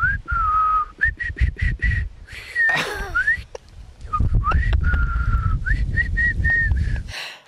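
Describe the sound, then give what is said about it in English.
Human whistling straight into a microphone: short and held notes that slide up, buried in a heavy, blustery rumble of breath hitting the mic, with a harsh rushing burst midway. “Because, you know, if you whistle straight into the microphone, all you get is that.”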